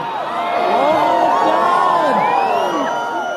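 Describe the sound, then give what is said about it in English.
A crowd of a couple hundred people watching an eclipse erupts in excited cries and whoops as they take off their eclipse glasses and look into the sky, many overlapping voices rising and falling in pitch, sustained loudly throughout with no single speaker standing out. “But when it was announced that we could take our eclipse glasses off, there was a cry from the crowd that went up when we looked into the sky.”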